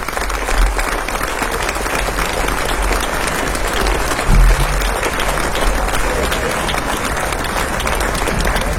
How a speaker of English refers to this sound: Mesdames et messieurs, s'il vous plaît, …, …, … pour vous ce soir. On peut les applaudir très fort.